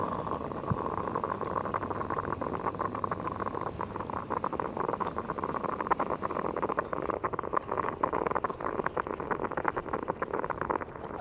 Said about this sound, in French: T'en veux une goutte ? C'est une petite cafetière, mais on peut partager.